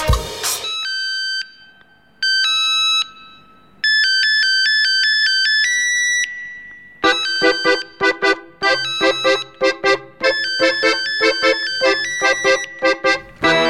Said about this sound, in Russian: это знаменитая мелодия из кинофильма «Бумер» под названием «Мобильник»